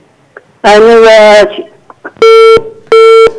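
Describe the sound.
A short burst of speech is followed by two loud, identical electronic beeps as a listener's call to the live radio phone-in program 航风热线 is hung up, each steady and flat-toned, separated by a brief pause.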